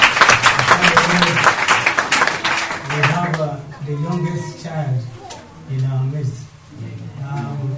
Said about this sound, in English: Let us all give a clap for her.